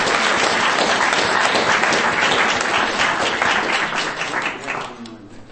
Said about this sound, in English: Round of applause.